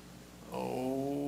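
Steaming hot water is poured steadily into a container, starting abruptly and continuing with a hollow, gurgling stream whose pitch rises as the vessel fills. No one speaks over it.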